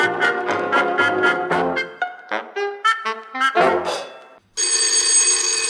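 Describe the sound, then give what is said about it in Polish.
A telephone starts ringing abruptly near the end, a loud, steady, bright electronic ring that cuts in right after a stretch of lively music stops. “No telefon jakbyśmy mieli.”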